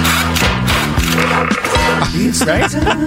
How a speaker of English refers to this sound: It's a nail being removed from a board.